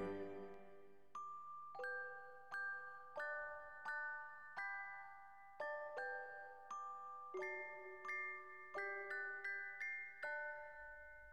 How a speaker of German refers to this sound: Da klang von der Garnisonkirche her das Glockenspiel hell und doch warnungsschwer.